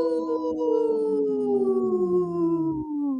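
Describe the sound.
Several people on the radio show Native Roots Radio Presents I'm Awake howl together in imitation of wolves during a segment supported by Howling for Wolves, a loud, sustained, wavering cry that slowly slides downward in pitch over about three seconds, with no talking.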